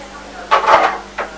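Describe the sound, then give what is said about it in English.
A person imitates a pig's oink: a longer, grunting nasal vocal burst, then a shorter one after a brief pause, fairly loud over a faint background hum. “That's the noise a pig make.”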